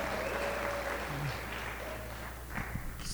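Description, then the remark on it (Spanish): An audience applauds, a steady wash of many hands clapping at an even level throughout, with a few faint tonal sounds and low thumps mixed underneath. “Den aplauso, porque sí es bueno ese aplauso, porque no se siente bueno, pero cuando están callados, cuando Dios está hablando.”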